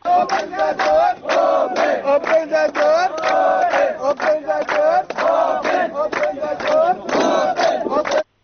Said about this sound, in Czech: nekoliko desetina mladića revoltirana je pritiscima od strane Mađarske. Okupljeni su oko zida i skandiraju.